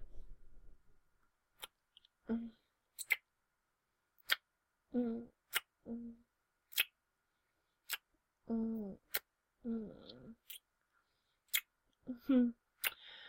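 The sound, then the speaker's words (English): Sharp, crisp ticks of a clock sound at a steady pace of roughly one a second, loud, with short bursts of human vocal sounds in between. “Well, it stopped because the clock started again, stupid.”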